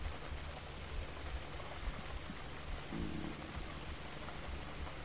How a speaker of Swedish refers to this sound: Kan du tillåta dig att under 2 minuter bara lyssna på regnet? Föreställa dig regnet. Ha din fulla närvaro i ljudet av regnet.